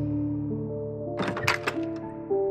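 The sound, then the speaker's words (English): An office door creaks open, with a short cluster of wooden knocks and rattles in the middle, over a steady low tonal hum that runs throughout. No one speaks. “I close my eyes as the office door creaks on its hinges.”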